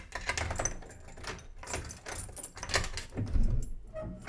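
Keys jangle and rattle in a lock with a series of metallic clicks, followed by a low clunk and creak as the door is pulled open. No one speaks.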